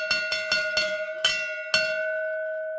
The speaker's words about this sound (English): No. Stop those bells.